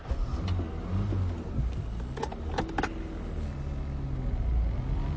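Steady low rumble of a car engine running while driving, heard from inside, with a short burst of light rattling clicks partway through and no voices.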